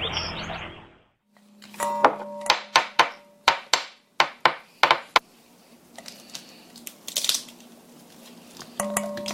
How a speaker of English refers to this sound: Ah, that's a lovely sound. It's popping peas.